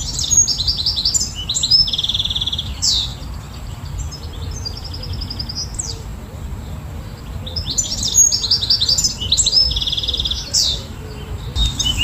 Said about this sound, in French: le chant que vous entendez en arrière-plan, eh bien c'est celui du chardonneret élégant